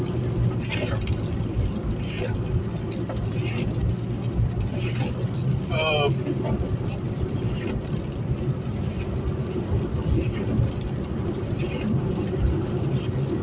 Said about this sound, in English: Still raining. Pretty good coming out of down there.